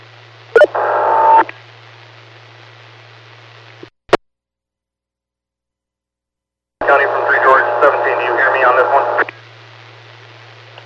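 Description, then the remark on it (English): Harsh radio static with bursts of garbled, unintelligible transmission, a loud stretch early and a longer one later, separated by a sharp click and a few seconds of dead silence. “Unable to copy any traffic. It's all static.”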